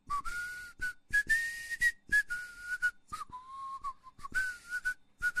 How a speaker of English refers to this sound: He hid behind a cottage and waited for the baker's boy. After a while, he heard someone whistling.